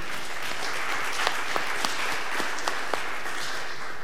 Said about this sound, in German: Dann sind Sie dran und Fragerunde. Erstmal mit Applaus und Dankeschön.